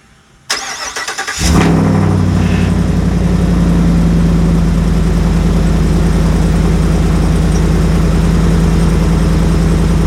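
A straight-piped 6.6 gas truck engine cranks and fires up, then settles into a loud, deep, rumbling idle with a steady low throb and no talking.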